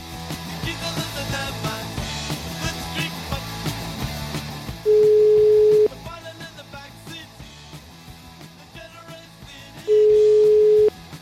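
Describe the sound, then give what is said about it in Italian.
Two long, steady telephone ringing tones, each about a second, sound loudly and clearly several seconds apart over a busy background music bed as an outgoing phone call is placed and waits to connect. “fate scattare il telefono, vai.”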